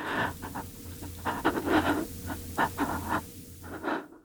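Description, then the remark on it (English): Quick, shaky breaths from a voice actor performing nervous breathing, a run of short, uneven inhales and exhales with little pauses between them, no words spoken. “Here's nervous breathing.”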